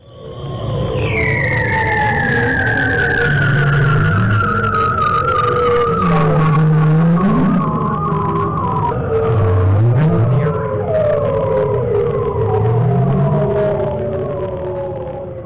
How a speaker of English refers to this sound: So this is a bearded seal. I'm gonna do some of the Arctic ones first. This is a very interesting sound. You should like this one.